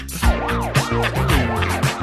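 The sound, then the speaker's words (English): A wailing siren rises and falls in quick, regular sweeps, loud, layered over a steady thumping beat and deep bass tones. No one speaks. “Listen to the sirens.”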